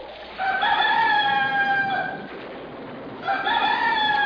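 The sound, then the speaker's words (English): A rooster crows twice at dawn, each call a long, loud, harmonic cock-a-doodle-doo, the second starting after a short pause. No one speaks. “Trumpet to the morn doth crow”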